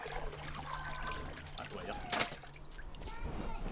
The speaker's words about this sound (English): Let me put some water in it now. That is... Bloody flowers. And then filling up the pool with water.